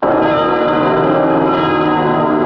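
Church bells in Dresden toll for the 50th anniversary of the Allied bombing of the city, in a dense, continuous wash of ringing, loud and sustained with layered overlapping tones and no voices present.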